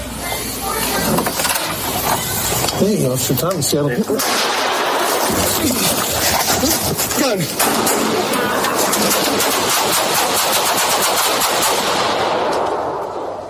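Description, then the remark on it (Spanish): Rapid bursts of gunfire crack out loudly and repeatedly, dense and chaotic, in a police shootout at a hotel room after officers opened the door and a man drew a pistol, while frantic shouting voices overlap the shots throughout, ending in a continuing roar of noise. “Opeta de balacera. Shots fired, suspect down, help the officer.”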